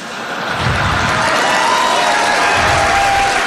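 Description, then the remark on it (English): A loud crowd cheers and applauds a statement from the president, a dense wash of clapping and shouting that swells in the first half second and then holds steady and strong throughout. “Well, that crowd liked that statement from the president.”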